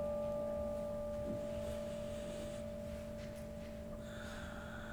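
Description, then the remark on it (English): A struck bell resonates with a long, steady hum of several layered tones that linger and fade very slowly, with no voices, just a faint brighter shimmer near the end. “And let the sound of the bell resonate deeply within your being.”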